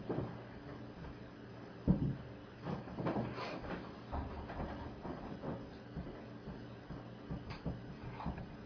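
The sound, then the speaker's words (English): Cabinet doors are opened and shut repeatedly, with a sharp thump near the start followed by a steady run of wooden clunks and rattles, no one speaking. “Stop the cabinets.”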